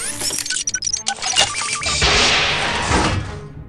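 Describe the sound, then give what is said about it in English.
Metallic clanks and a jangle of thuds as a door is worked open, followed by a loud, rushing mechanical whoosh that fills the last couple of seconds, with no voices. “I'll get the door.”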